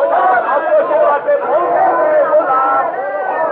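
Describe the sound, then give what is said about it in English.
A crowd, a reception committee sent by the Emperor to greet Lord McCartney and his captain, cheers and shouts in a steady, dense roar of many voices, holding at an even loudness for several seconds without a break. “Oh, well, they're cheering.”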